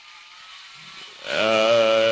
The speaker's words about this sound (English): Even in light of the chainsaw noise in the background. Well, these things happen. You cannot predict them. And it looks like they're not only trimming the leaves off